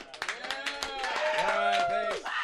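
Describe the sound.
A short burst of clapping from a small group, mixed with whoops and cheering voices, lively, building slightly before tapering off, as a round of applause.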